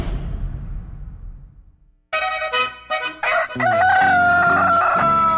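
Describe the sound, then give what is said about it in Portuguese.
A rooster crows loudly at 6:06 in the morning, a few short choppy bursts building into one long drawn-out cock-a-doodle-doo, following a fading low rumble and a brief silence. “Galo vai cantando, o relógio já marcando 6:06.”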